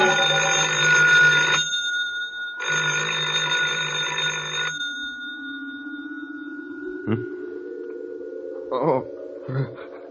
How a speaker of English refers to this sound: I thought I heard the phone.